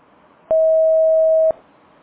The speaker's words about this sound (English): The person at extension is not available. Record your message at the tone. Press any key or stop talking to end the recording.